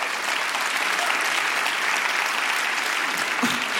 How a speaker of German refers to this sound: Sie haben am Montag für Ihren Roman »Hey, guten Morgen, wie geht es dir?« da steht er, den Deutschen Buchpreis bekommen. Dafür auch nochmal einen herzlichen Applaus.